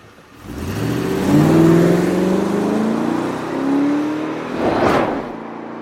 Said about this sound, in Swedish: När jag kom in i bilen rivstartade jag och körde iväg.